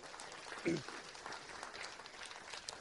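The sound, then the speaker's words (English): A steady wash of audience applause, many hands clapping at a moderate level, with a brief louder burst near the start and no clear voices over it. “Yeah, let's clap on that.”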